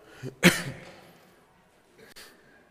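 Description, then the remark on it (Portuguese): A single sharp, forceful cough, followed by a softer throaty clearing a moment later, with quiet room tone in between and no speech. The cough comes from a hoarse speaker who is reading from the Bible. “Essa tosse está complicada.”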